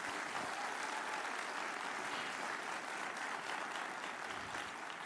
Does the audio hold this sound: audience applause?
yes